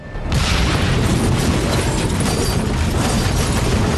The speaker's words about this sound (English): Parked in a scrap heap, Ray and Sam get out of Kavanagh's Peugeot. Petrol can in his hand, Ray douses the car with fuel. He discards the container. He flicks a Zippo lighter. Flames engulf the car.